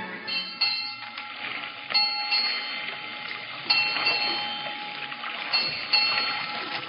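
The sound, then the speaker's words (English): A ship's bell rings out eight bells of the fourth watch in a slow series of clanging strikes, each one leaving a bright metallic tone that lingers into the next, steady. “It was 8 bells of the fourth watch before they came under our guns.”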